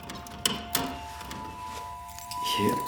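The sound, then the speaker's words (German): Keys jingle in two quick metallic clinks as a key is found, followed by softer rustling handling against a low background hum. “Hier ist ein Schlüssel.”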